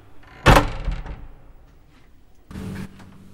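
The front door of a home is pushed shut with one solid thud that rings briefly as a man leaves. About two seconds later comes a short, muffled rattle, like the latch or handle settling, with no voices.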